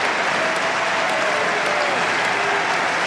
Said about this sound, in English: Well, that extra applause is the standard applause you get round here when a player gets to match point. Yannick Sinner doesn't know yet that he's about to be world number one, but he is, regardless of the outcome of this match.